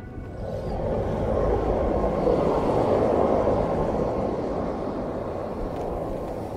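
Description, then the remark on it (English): A helicopter flies steadily over the polar bear country of the North, giving a loud, continuous low engine and rotor roar that swells in the first second and then holds, with no voices present. “Back up in the helicopter, the grand puzzle of this place begins to become clear.”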